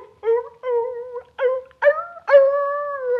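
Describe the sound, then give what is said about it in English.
Dandy the dog gives a run of short, tonal yelping barks, then a long, drawn-out howl. It is fairly loud, with no talking. “Dandy the dog barked.”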